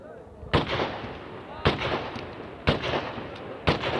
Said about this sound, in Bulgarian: Кой стреля, бе? Войник, този войник.